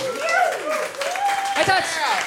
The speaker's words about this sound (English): you sold out the SSC Arena again this year. Yeah. Could you? Twice. Twice. Twice this year. Say round of applause for that.